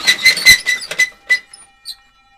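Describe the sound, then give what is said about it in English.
A few sharp clacks of a latch lifting from inside a van are followed by the van's squeaky side door sliding open, its high metallic squeal fading out. No voices accompany it. “Just then, I heard what sounded like a latch lifting from inside the van, and the side door slid open.”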